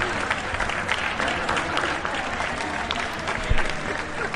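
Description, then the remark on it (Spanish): A steady wash of clapping from many people applauding from their windows at 8 pm, dense and continuous throughout, with scattered brighter claps standing out and a faint murmur of voices mixed in. “Bueno, entonces llegaron los aplausos de las 8.”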